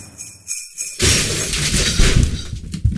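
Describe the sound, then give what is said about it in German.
After a second of near quiet, a sudden loud crash erupts, like a heavy fall from a roof, followed by two seconds of rattling, clattering debris with no talking. “Klang, als käme es vom Dach. Ja, als wäre jemand von einem überdimensionalen Turbus runtergefallen.”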